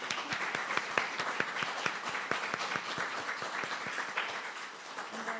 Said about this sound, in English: One last time, we can applaud them.